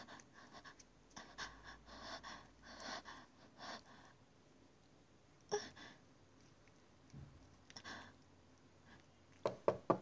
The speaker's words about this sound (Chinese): 你妈妈敲门，知道了，阿姨，我们马上来。